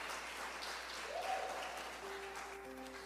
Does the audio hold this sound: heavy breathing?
no